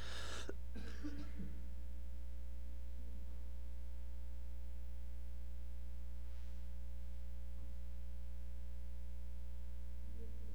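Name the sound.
coughing and throat clearing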